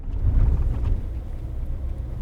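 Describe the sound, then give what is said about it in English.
A truck's engine rumbles low and steady as it drives and parks on a dirt road on the Fort Mojave Reservation, by a pump taking water from the river. It is slightly louder at first, then settles into an even idle-like drone, with no voices. “Williams parks his truck on the dirt road to visit the pump that takes water from the river”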